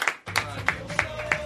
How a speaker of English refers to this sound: Oh, look, I love this. I like to come in with applause.